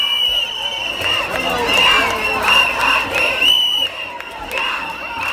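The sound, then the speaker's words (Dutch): A dense, noisy crowd of women at an annual women's march in 2018 fills the scene with overlapping voices, shouts, singing and cheering, steady throughout, with bursts of higher-pitched calls rising above the general roar. “stond op een soort muurtje en het was eigenlijk enorm druk, dus je kon bijna nergens meer lopen.”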